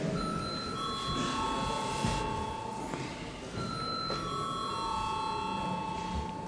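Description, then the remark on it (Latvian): An electric bell rings continuously for several seconds, a steady metallic trill, with faint background murmur underneath and no clear speech. It is rung in a parliamentary session to call deputies to vote on a bill. “Lūdzu, zvanu.”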